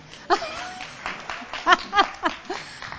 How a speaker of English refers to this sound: Round of applause for Rooney.